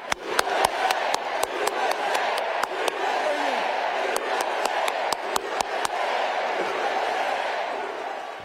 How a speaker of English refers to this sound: That was Tim Walz clapping, the loudest clapper, and the crowd chanting, USA, USA, USA. For a second, he joins in and does a big fist pump like, yeah.